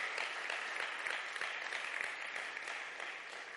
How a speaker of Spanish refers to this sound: Dale un fuerte aplauso a Jesús.